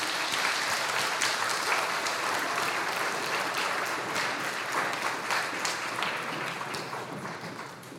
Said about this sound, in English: And let's welcome these boys with a round of applause.